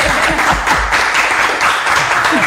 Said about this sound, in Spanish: Les damos un aplauso con todo cariño. Aquí está, aplauso con todo cariño.